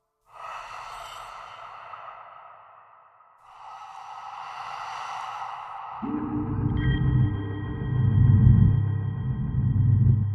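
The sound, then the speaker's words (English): A voice imitates heavy breathing heard at about 2 a.m., seemingly coming from the kitchen area: two long, breathy exhales, then a deeper, rasping, rumbling breath that swells louder and holds. No words are spoken. “I turn off the TV, I'm ready to go to bed, and then I'm listening and I can hear what sounds like breathing.”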